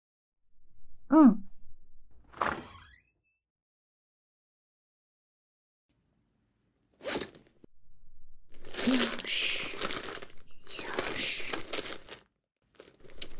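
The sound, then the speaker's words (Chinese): Someone rummages through a teacher's briefcase for the office key, with loud bursts of rustling and crinkling that grow into several seconds of steady shuffling. A short vocal sigh comes near the start. “那个办公室钥匙就在老师的公文包里，是吗？”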